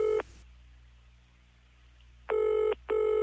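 A telephone rings in short electronic bursts at the start of a song: a brief tone at the start, then after a pause two clear rings in quick succession, loud with no one talking.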